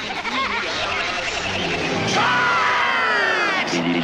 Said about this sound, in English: Well, it sounds like a crowd.